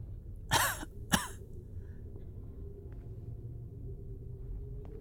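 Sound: cough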